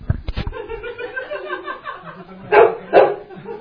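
A dog barks twice in quick succession, loud, after a stretch of low background murmur and a few sharp knocks near the start.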